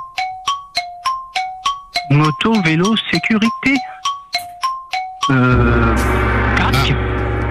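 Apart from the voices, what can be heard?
gong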